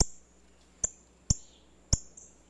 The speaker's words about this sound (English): A female northern cardinal plucks a black oil sunflower seed from a feeder.